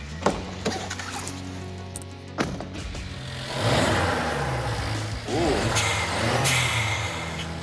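A modified, turbocharged car engine with a blower valve idles with a deep, throaty exhaust rumble, then revs up loudly a couple of times, the exhaust note rising and falling.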